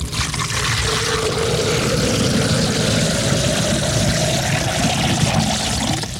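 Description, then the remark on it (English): A drink is poured steadily into a glass for about six seconds, a continuous splashing gush with a ringing tone that climbs in pitch as the glass fills. No one speaks. “Let me pour myself that bone dry.”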